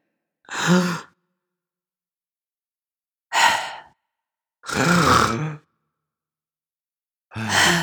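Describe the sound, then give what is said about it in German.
A voice imitates a person's heavy, drawn-out breathing while sleeping in bed: four loud, breathy exhalations with long silent gaps between them, with no talking. “Was Julius aktuell noch macht, ist unfassbar lang zu atmen.”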